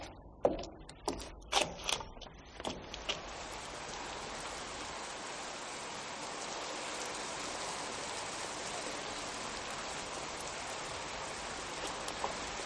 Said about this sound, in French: Eh, il faut auparavant que vous passiez sous une douche d'eau tiède qui rince vos vêtements de toute trace de pluie. Entrez ici, dans cette logette, s'il vous plaît, et tournez le bouton fixé au mur.